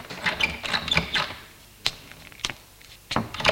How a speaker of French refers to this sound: Il monte au troisième étage. Ouvre la porte de l'appartement en évitant de trop faire de bruit.